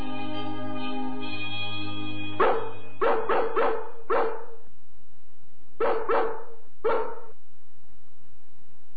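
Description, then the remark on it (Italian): A dog barks sharply to pass word to the dogs of London, in two bursts of quick, loud barks with a short pause between them, following a steady droning tone at the start. No one speaks. “Passeremo la voce stasera quando ci porteranno a passeggiare nel parco.”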